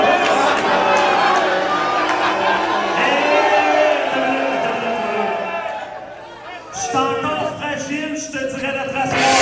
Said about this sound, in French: Et là, ça hue parce qu'il se lève pour frapper sur le gong.